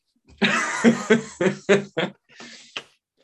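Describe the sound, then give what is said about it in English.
A run of about five harsh, loud coughs in quick succession, followed by a softer raspy breath and a final short hack. No talking. “Yeah, let me just have a cough before, because I'm choking on my own vomit right now.”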